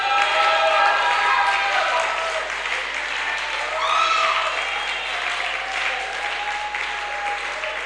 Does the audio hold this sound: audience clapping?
yes